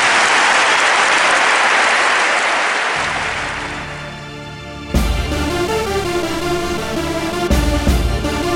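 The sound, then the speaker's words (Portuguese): A burst of crowd applause, a dense wash of clapping that gradually fades, while music swells underneath and then comes in loudly with a strong beat. “Uma salva de palmas pra gente.”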